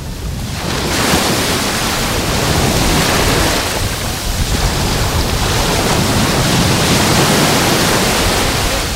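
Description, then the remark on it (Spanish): Loud, rough Mediterranean surf pounds the beach at Salobreña in a continuous roar, waves surging and breaking one after another with a constant wash of churning water and some wind buffeting the microphone. “Ya tengo los piececitos mojados, el agua no está muy fría y el sonido que hoy nos deja el mar Mediterráneo es muy intenso, de olas, muy movidito. Así suena hoy la playa de Salobreña.”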